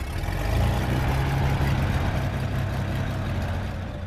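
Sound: small plane engine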